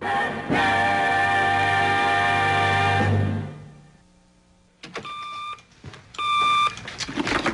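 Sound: telephone ringing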